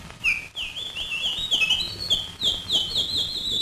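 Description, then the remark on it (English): An early electronic instrument, the Ondes Martenot invented by Maurice Martenot, imitates birdsong with a run of high, sliding chirps and warbling trills, steady and fairly loud, with no talking over it. “And bird, if you will.”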